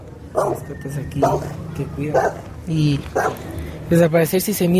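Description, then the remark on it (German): Dogs keeping watch at a health centre bark repeatedly in short, fairly regular bursts, several times in a few seconds, loud, with the voices of people waiting for a doctor murmuring underneath. “Es gibt auch Hunde, die aufpassen.”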